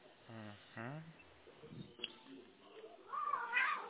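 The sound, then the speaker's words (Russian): A domestic cat purring and vocalizing, with two short tonal calls early on, a rough low rumble in the middle, and brighter, louder noise near the end. “Потому что нельзя так мурлыкать.”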